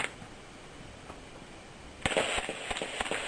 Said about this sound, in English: This is a suppressor from Finland. He's put a silencer on, and he's putting some bullets in. Now let's listen to it.